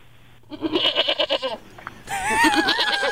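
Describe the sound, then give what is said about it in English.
A goat bleats loudly, first in a pulsing, wavering cry and then in a longer, strained call after a brief pause. “So she wants me to call him as one of the construction employees and let him know that, you know, my pet goat accidentally destroyed something of his.”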